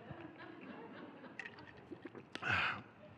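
Someone drinks water: a few soft clicks and lip sounds, then a short, louder gulping slurp near the end, with no talking.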